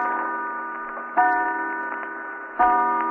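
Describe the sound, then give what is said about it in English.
A clock strikes three o'clock with resonant, ringing tones, a new stroke sounding roughly every second and a half while each one lingers and fades, loud, with no voices. “3 o'clock.”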